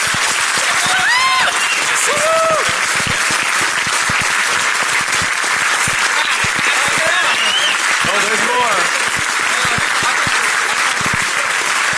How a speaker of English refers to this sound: please give your strongest round of applause for Mudge and everything he's done for the security community